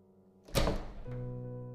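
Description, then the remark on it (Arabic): A single dull, heavy knock on a door, loud and brief, over a steady low humming tone that continues after the impact. “قلبي فوت دقة لما سمعت صوت الباب.”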